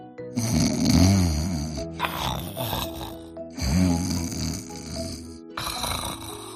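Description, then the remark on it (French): Loud snoring in a steady rhythm: two long rumbling inhales with harsh rasping texture, each followed by a breathy exhale, with a third snore starting at the end, portraying a wolf asleep on a full belly. Likely a voice performing the snores. “Heureux, le ventre plein, le loup se coucha et s'endormit. Aussitôt, il se mit à ronfler.”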